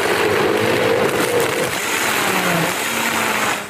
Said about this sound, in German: Geht der kaputt? Nee, das ist ein Hochleistungsmixer.